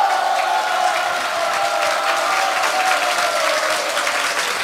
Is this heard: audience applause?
yes